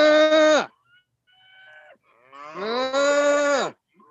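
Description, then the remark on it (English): A herd of cattle mooing late in the day after a hailstorm: a short, loud, low moo, then a fainter, higher call, followed by a long, drawn-out moo with rich harmonics. No people speak. “Usually I can get them talking to me, the whole herd. It's like a giant cacophony.”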